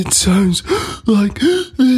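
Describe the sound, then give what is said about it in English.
A voice speaks a short phrase while breathing in, each strained, breathy syllable coming out as a gasping, croaky burst separated by brief gaps. “If you inhale when you talk,”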